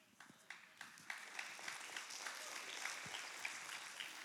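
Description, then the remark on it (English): A crowd breaks into applause, starting with a few scattered claps that quickly build into steady, dense clapping, fairly soft overall and sustained with no voices. “Claps for that.”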